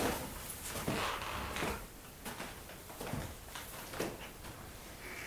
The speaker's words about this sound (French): Ah, il vient, j'entends la porte de sa chambre.